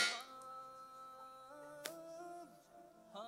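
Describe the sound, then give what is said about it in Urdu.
A loud electronic quiz buzzer, pressed by a contestant in a quiz competition, sounds alone, a sustained buzzy tone that steps and slides through a few pitches over about three seconds, with a short sharp click near the middle. “جی buzzer پہلے کس نے بجائی ہے؟”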